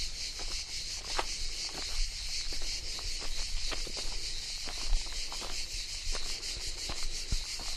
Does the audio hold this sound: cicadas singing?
yes